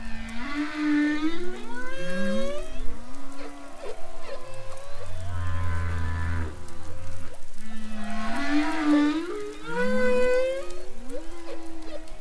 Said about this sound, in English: And the humpback whales will be passing by. They go south to give birth over in the Caribbean, and they come from the north.